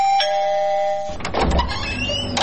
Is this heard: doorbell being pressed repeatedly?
yes